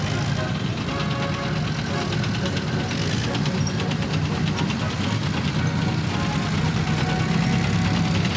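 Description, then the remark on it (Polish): The engine of a Leopard 2A4 tank of almost 60 tons rumbles steadily, a deep low drone with a rough, throbbing texture and faint mechanical clatter layered above, holding at an even loudness throughout. “Mimo tych nakładek słyszymy takie charakterystyczne dudnienie, trochę jakby burza nadchodziła.”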